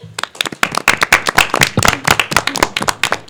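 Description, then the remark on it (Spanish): A short burst of clapping from a small group applauding the Three Kings, dense and steady, the individual claps crisp, with no voices over it. “¿Qué tal si le damos un aplauso a los Reyes?”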